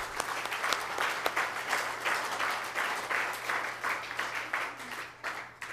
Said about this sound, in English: First, to the sponsors. Any missionette sponsors, past or present out there, I'd like you to stand right now. Current or... Okay, let's give them a applaud.